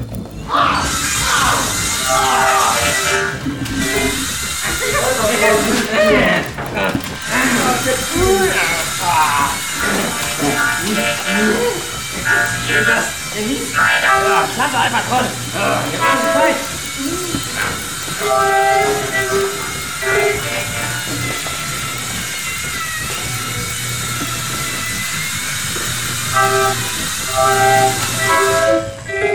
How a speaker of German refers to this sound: Aktiviere Gefechtsmodus, die Mosium gehärtete Kettensäge.